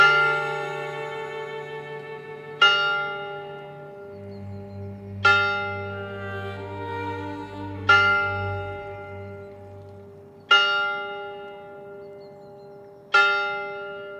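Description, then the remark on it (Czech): The clock of a white tower strikes the hour of nine over a town; six slow, evenly spaced deep tolls are heard, each ringing out and fading before the next, with a low droning tone swelling underneath partway through. “A z bílé věže odbíjely hodiny hlubokým zvukem 9.”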